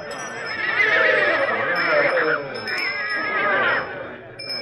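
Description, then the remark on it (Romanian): A tall, thin black horse with an arched neck neighs at a horse fair in Döbrug: two long, loud whinnies with wavering, harmonic pitch, the second slightly shorter, clear, with a faint background murmur. “Cei mai mulți oameni s-au strâns în jurul unui cal, înalt, subțire, negru, cu gâtul arcuit.”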